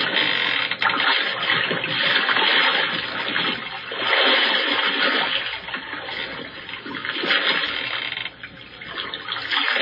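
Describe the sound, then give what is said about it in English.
Oars splash and churn through water as people row a drifting boat, in a steady, rolling rhythm, the sloshing swelling every few seconds with each stroke. Loud, with no voices. “They even resort to rowing.”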